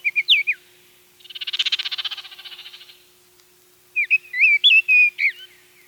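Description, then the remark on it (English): An oriole sings short, rich whistled phrases, loud, with a harsh rapid chatter in the middle before the fluty whistles return in a quick burst. The bird is high in the neighborhood treetops, eating bugs as it sings. “They mostly stay high in the treetops, munching on bugs and singing. They're hard to see because the trees leafed out so early this year, but their rich whistle is unmistakable.”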